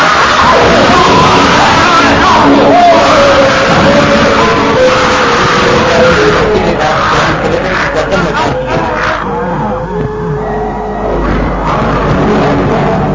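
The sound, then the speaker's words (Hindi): A fierce, loud scream from the ape Kerchak as he attacks a man: harsh bellowing and shrieking cries piling up in a dense, chaotic burst that roars on without pause for the whole stretch. “करचाक ने खौफनाक चीख के साथ जॉन क्लेटन पर हमला कर दिया।”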